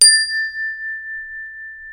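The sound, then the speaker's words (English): A single bright chime is struck once and rings out with a clear, sustained tone that slowly fades over about two seconds, heard alone with no talking. “Because we want to keep these guides concise and allow you to reflect or do a prayer practice for as long as you want, there are certain times where we will signal you to pause. We will do this by using a chime.”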